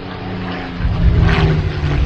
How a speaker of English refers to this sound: And now, a World War II Japanese fighter plane.